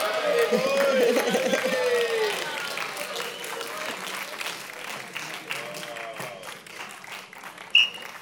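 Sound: cheering and clapping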